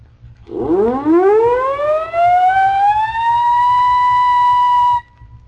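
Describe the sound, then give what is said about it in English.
A ship's siren winds up from a low growl into a sustained, steady wailing tone with rich harmonics, holding loud for several seconds before cutting off abruptly. No one speaks. “The next sound is that of a ship's siren.”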